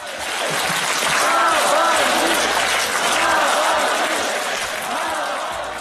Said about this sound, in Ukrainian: На мітингу сьогодні ввечері на Болотній площі лунали вигуки десятки тисяч присутніх на підтримку Олексія Навального.